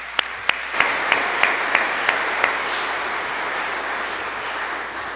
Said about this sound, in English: Welcome. Let's give them another round of applause, shall we?